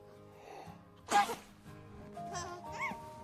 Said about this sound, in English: lifts her trunk, sniffs it, and sneezes.